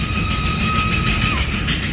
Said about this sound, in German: Wer an der Strecke das charakteristische Pfeifen von Casey Jones Lokomotive hört, der stellt die Uhr danach. So pünktlich ist der berühmteste Lokführer der amerikanischen Geschichte, glaubt man seiner Legende.